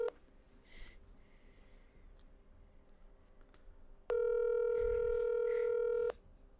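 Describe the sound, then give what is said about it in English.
A single loud ringback tone from an outgoing phone call, a steady buzzing ring lasting about two seconds, with faint background noise and no talking. “It's ringing.”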